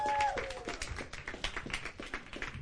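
A crowd claps steadily, with dense overlapping handclaps forming a continuous patter at moderate loudness, and a brief tonal sound near the start.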